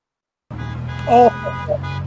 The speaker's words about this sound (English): You hear those horns honking out there again. We're out here doing a honking wave.